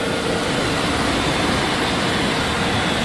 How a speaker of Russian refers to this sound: И вот шум. Шум это как раз от мойки, от пылесосов, там от всех этих дел. Вот написано «Мастер Car Wash»